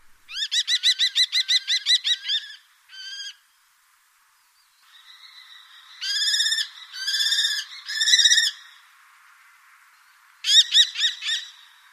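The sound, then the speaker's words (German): A common kestrel calls with rapid, shrill kee-kee-kee series, a long burst of about a dozen notes at first, then several shorter bursts, loud with no voices. “Kennen Sie den Ruf des Falken?”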